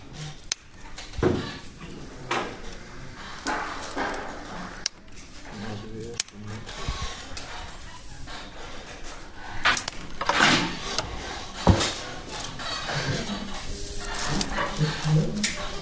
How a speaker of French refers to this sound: Elle est facile à travailler? Faut avoir des bons ciseaux. Faut avoir des bons ciseaux. On va écouter d'ailleurs le son du ciseau.